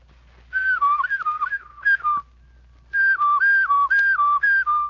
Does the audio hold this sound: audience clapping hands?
no